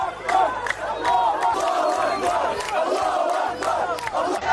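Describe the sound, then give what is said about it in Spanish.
A large crowd of Arab people cheers, applauds and chants loudly in unison, giving thanks to Allah as missile lights cross the sky toward Israel, many voices shouting together with sharp rising calls over a steady roar, continuous throughout. “Muchos árabes aplaudían, daban gracias a Alá, pidiendo a su Dios que esas luces que cruzaban el cielo hicieran todo el daño posible a gente de Israel.”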